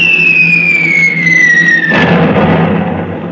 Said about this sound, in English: I know the shape of these. These are war planes from the south.